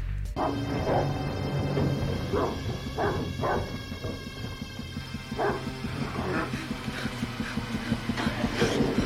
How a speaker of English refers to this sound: But at the same time, the dog starts barking.